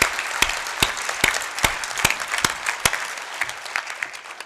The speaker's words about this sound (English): Thank you, and let's give all 4 of our presenters another round of applause.